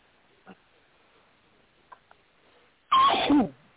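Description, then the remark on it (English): A single loud, sharp sneeze, put down to living with a German Shepherd and a Pit Bull Terrier that shed a lot, bursts out near the end after a few seconds of near silence broken only by faint small clicks. No one speaks. “Bless you.”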